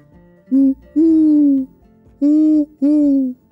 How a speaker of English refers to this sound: "Woo-hoo! Woo-hoo!" called the owl. "Where did she go? I almost caught myself a delicious midnight snack.